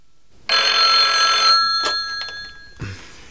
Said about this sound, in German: Und kaum waren sie dort angekommen, als das Telefon klingelte.